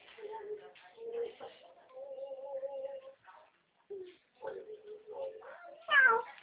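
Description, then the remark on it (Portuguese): A cat meows repeatedly: a string of drawn-out, wavering mews with short pauses between them, ending in a louder, rising cry. “Pode parar de gatinho agora.”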